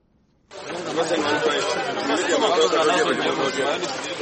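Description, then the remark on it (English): A crowd of fish traders chatters on a lake beach in the Magawa area, gathered in the afternoon or evening to wait for the fishermen's haul. Many overlapping voices form a steady, lively hubbub with no single speaker standing out, holding an even loudness throughout after a quiet start. “A crowd of fish traders gathers each afternoon and evening at a beach in the Magawa area, waiting for the haul from fishermen.”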